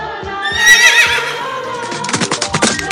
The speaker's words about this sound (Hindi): खैर, बकरे की बात सुनकर घोड़ा उठा और हिम्मत कर चला और फिर दौड़ने भी लगा।